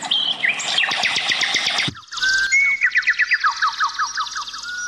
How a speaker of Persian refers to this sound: در زیر همین درختان و بوته‌های رنگارنگ و دریای خروشان چمن‌های سبز چشم را خیره می‌کند و صدای خوش‌الحان پرنده‌ها گوش‌ها را نوازش می‌دهد.